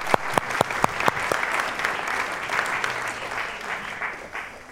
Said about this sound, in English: So, children, well done. Thank you. Give them a round of applause as they go and sit back down. Thank you.